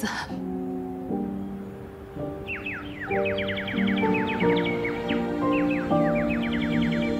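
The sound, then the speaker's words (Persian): A bird calls outdoors in a back yard in quick, repeated chirps that start a few seconds in and keep going, layered over a steady, sustained musical drone. “پرنده جدید دیده شد، یه توتای باقی تو حیات پشتیه.”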